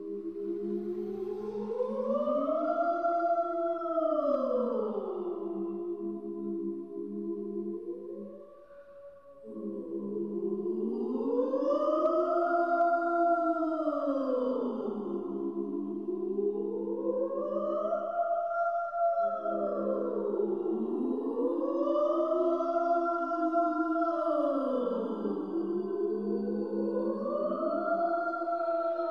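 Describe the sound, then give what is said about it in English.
A 21-minute loop of layered sliding tones gliding up and down in slow, repeating arcs, a continuous looping glissando with rich harmonics, steady and fairly loud, dipping briefly before resuming its wavering cycle. “The 21-minute loop of glissolalia creeps up on, but never quite comes back to, itself.”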